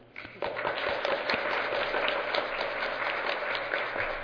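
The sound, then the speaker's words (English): An audience gives the presenters of the afternoon's talks a round of applause: a steady, dense wash of many hands clapping, starting after a brief quiet moment and holding at an even level for several seconds. “If you give them a round of applause.”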